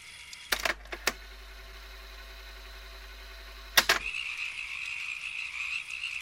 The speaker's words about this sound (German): Hört mal. Wie nach dem Regen neulich. Es müssen Hunderte sein. Boah, diesmal sind's wirklich Frösche.